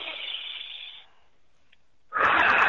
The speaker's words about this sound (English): Another thing you can do is do a little bit of deep breathing, because that will take you into a deeper state of meditation. Just taking a deep breath like this, I'll do an example just like this.